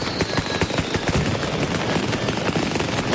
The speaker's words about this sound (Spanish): Y Valencia anunciará la llegada del 9 de octubre con dos espectáculos pirotécnicos.